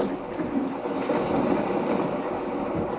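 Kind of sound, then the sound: nature, ocean waves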